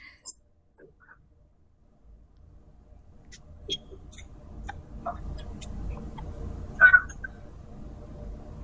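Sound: chickens squawking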